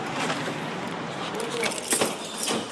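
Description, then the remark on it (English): A bunch of door keys jingles in short metallic bursts at a key-cutting shop counter over a steady, noisy background, with a brighter clatter near the end, moderately loud. “Only door keys.”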